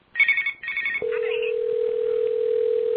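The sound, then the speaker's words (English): Two quick bursts of a loud, trilling telephone ring cut off abruptly, replaced by a steady, unbroken dial tone that drones on to the end. No one answers, and no voices are heard. “Alright, apparently Not Theory ain't picking up his phone.”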